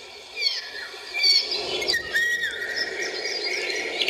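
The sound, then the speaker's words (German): Golden oriole calls and fluting song play back from a bird-song record on a mobile phone at moderate volume: a run of bright whistled notes and sharper chirps over a steady hiss, with no voices. “Ja, das sind wieder Ruf und Gesang von Tirol.”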